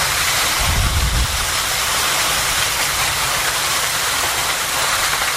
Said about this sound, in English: That's what it sounded like outside the KMA studios from the massive squall line of severe storms entering Shenandoah at around 5:30 a.m. Various reports indicate 2 to 3 inches of rain fell on the community in a short period of time,